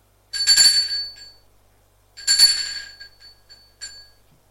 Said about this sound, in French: Puis, il va sonner à sa porte.